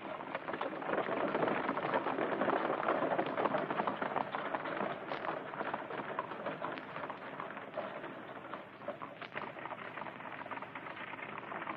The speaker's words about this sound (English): Hurry with the horses, you fools!